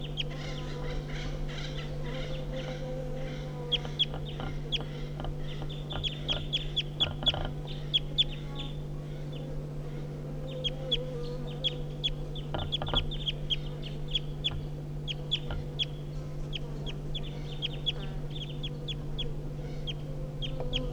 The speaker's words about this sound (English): So recording the wild birds giving flight calls now. It's 9 o'clock.